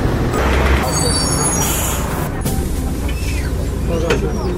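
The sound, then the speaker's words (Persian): A city bus pulls in at a BRT station with a steady engine rumble and a brief high hiss like air brakes, over busy street noise, with indistinct voices. “الان من رسیدم به ایستگاه BRT و میخوام سوار اتوبوس شم.”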